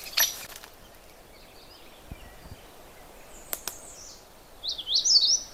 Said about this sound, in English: That's the magnolia warbler. Very short, simple song. And I'm not going to try to explain it, because the problem with the magnolia warbler is it sings a whole bunch of different songs. And this is just one of them, one of many.